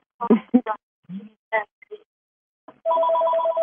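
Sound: telephone bell ringing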